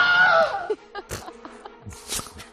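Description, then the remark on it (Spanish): A Wilhelm scream: one loud, piercing cry lasting under a second, its pitch sliding downward, followed by quieter clatters and muffled thumps. “Grito Wilhelm, grito Wilhelm.”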